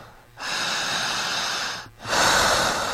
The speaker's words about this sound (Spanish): Jale el aire y siga respirando. Duérmase profundo. Siga respirando. Jale el aire igual que yo.